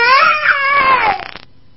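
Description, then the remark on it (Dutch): A small child lets out a loud, high-pitched wailing scream that holds steady, then breaks into stuttering sobs before cutting off abruptly, with no talking alongside. “Je krijgt een tik op de billen als je zo gilt.”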